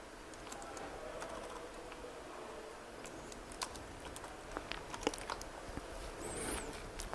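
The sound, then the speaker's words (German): Soft, irregular clicking of keys on a computer keyboard as someone types a command to start JRuby via RVM, quick taps in uneven bursts over a steady low hiss, fairly quiet, with no voices. “Was habe ich jetzt falsch getippt?”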